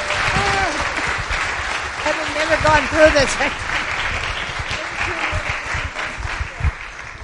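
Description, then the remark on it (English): Sustained audience applause fills the whole stretch, a dense, steady patter of many hands clapping, with a few voices calling out and a speaker talking briefly over it. “A round of applause for all of our...”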